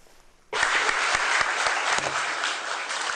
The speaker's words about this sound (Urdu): صحافیوں، اعلیٰ سطحی سرکاری افسران اور دوسرے مہمانوں پر مشتمل حاضرین نے اس وقت تالیاں بجائیں جب شامی وزیر خارجہ ولید المعلم نے جنیوا میں اقوام متحدہ کے زیر اہتمام امن کانفرنس کے بارے میں اور دہشت گردوں کو شکست دینے تک فوجی کاروائیاں جاری رکھنے کے بارے